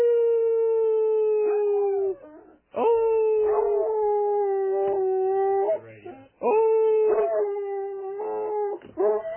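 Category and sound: animal, dog howling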